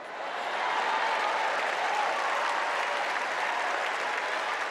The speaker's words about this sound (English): Hillary Clinton was greeted with wild and sustained applause that lasted for more than 2 minutes before she was finally able to quiet the crowd.